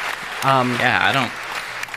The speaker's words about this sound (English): I hope you really like these applause noises.